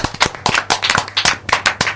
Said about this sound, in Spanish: Un aplauso enorme para Mari.